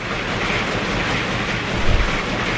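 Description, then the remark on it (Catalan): Industrial weaving looms clatter in a dense, steady mechanical din, with a low rhythmic thumping under a hissy rattle and a brief louder knock near the end. No one speaks. “És un clec-clec més industrial, no?”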